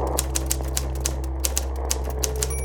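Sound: typewriter typing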